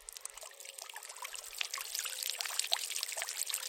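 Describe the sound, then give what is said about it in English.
Water gushes and trickles steadily as it is pushed through a plastic filter housing holding a membrane, about twice the size of a 50 pence coin, to catch particles, sediments, DNA and cells from environmental water. A continuous hissing, bubbling flow with small splashy spurts grows slightly louder toward the end, with no voices. “So then we just push the water through.”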